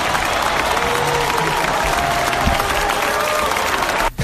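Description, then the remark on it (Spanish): A basketball crowd in an NBA arena applauds steadily, a dense, even wash of clapping with faint cheering mixed in, holding at a loud level before cutting off abruptly near the end. “Sonido de los pabellones NBA.”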